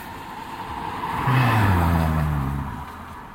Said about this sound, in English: McDonald's is beginning to fill up with cars. One after the other, after the other. That's how it'll go. Some going in, some going through the drive-thru.